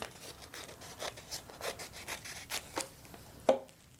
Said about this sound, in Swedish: Och för att få en fyrkant av det här så får man vika hälften där och klippa bort den här lilla biten som blir över.